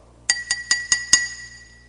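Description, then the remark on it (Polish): A glass is tapped five times in quick, even succession to call for silence, each bright ringing clink leaving a short high-pitched shimmer that fades after the last strike. “To jest sygnał, że mamy nastawić się na słuchanie. To najczęściej ucisza jakieś grono osób, czy w restauracji, na przyjęciu.”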